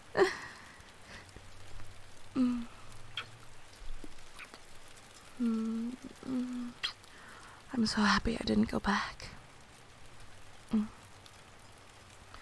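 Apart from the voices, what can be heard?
rain falling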